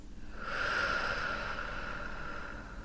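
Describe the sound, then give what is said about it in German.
A long, slow breath out during a guided breathing exercise, a steady airy rush that swells and then gently fades over about three seconds, with no talking. “Und wir atmen aus.”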